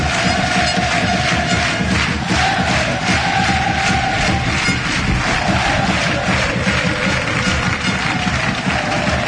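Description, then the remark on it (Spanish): A packed stadium crowd of Recreativo de Huelva fans in blue-and-white shirts claps together in unison with palms raised shortly before kickoff, a steady, rhythmic beat, the loud, dense roar of voices and palms continuing without a break. “Todo el estadio aplaudiendo, todas esas casacas albiazules, las palmas arriba, al unísono”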